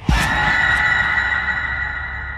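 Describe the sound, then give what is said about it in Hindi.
A loud, piercing scream heard from behind in a hotel starts abruptly after a brief low thud and holds steady at a high pitch for about two seconds, unbroken, with no speech around it. “जैसे ही उसने अपने हाथों में वो चाबी ली, पीछे से एक जोर की चीख सुनाई दी।”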